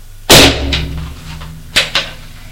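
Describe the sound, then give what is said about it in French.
In the dark, a chair is knocked over and crashes to the floor with one loud, sharp wooden bang and a low ringing decay, followed by two smaller clattering knocks as it settles. No voices. “Malheureusement, dans le noir, il cogne une chaise qui tombe à terre.”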